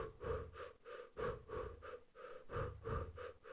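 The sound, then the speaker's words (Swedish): A person demonstrates the steady, rhythmic breathing used when running gets harder, roughly eight quick, even in-and-out breaths in an unbroken pattern, fairly loud, with no talking. “Men den, när det blev lite jobbigare då skulle man andas ungefär så här.”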